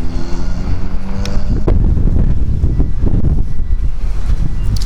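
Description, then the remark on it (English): Strong wind roars and buffets outdoors outside a grocery store, a loud, continuous low rumble with gusty surges throughout, with a faint engine-like hum at the very start and no voices. “Oh, it wasn't supposed to be this windy.”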